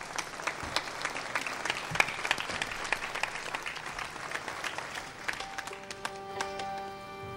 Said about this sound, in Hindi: अजीत भाई के लिए जरा तालियां हो जाए।